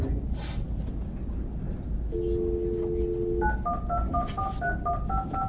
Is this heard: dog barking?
no